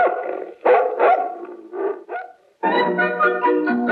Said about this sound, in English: I raise dogs. Big ones to chase nosy survey men. Go get him, puppy!